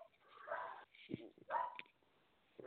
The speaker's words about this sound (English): Forgive the dog barking in the background.